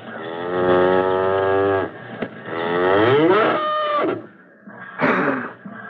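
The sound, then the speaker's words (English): A dairy cow being milked in a barn lets out two long, loud, droning moos, the second rising and straining, followed by a short, rough cough near the end. “Sounded like a cough, didn't it?”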